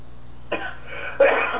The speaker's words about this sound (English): I coughed right in the middle of that